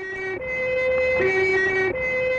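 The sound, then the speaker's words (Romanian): A loud fire engine siren wails in a two-tone hi-lo pattern, switching pitch every second or so, continuous throughout. “Pompieri!”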